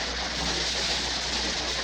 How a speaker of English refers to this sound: The audience is still applauding here in Bovard Auditorium.